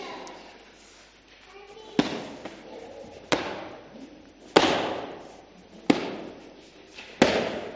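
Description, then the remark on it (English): Kicks breaking through wooden boards, done in a church by a student going for his green belt: five loud, sharp cracks land at a steady pace, each with a brief splintering tail, over a low background murmur. “is now kicking through wooden boards.”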